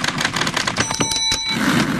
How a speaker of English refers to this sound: 40 years ago, what was this? Ah, that's a typewriter.